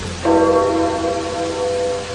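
A single deep death knell stroke from a church bell rings out at night over St. Peter's Square in Vatican City after the death of Pope John Paul II; its resonant tone lingers and slowly fades over a steady background hiss.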